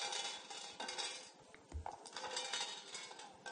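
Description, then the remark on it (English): A game's dice-rolling sound effect in Cletus's dice den, a bet on snake eyes: a steady, bright rattling clatter of tumbling dice lasting a few seconds, with a brief low thump partway through and no voices. “Listen to that. What a great little sound effect.”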